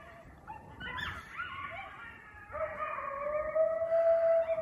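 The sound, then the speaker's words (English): A chorus of coyotes howling and yipping, with several rising, wavering calls overlapping and building into a long sustained howl that grows louder toward the end. No one speaks. “That animal call? Those are coyotes.”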